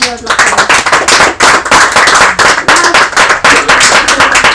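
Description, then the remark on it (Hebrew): A group of people applauds, with dense, overlapping hand claps that keep up steadily for several seconds, loud, with no voices standing out. “יפה, מחיאות כפיים.”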